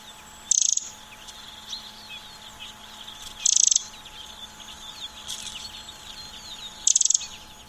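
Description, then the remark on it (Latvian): A Eurasian wren sings in the morning in three short, high, rattling bursts spaced a few seconds apart, clear over a quiet outdoor background with a faint steady hum. “iedziedas paceplītis.”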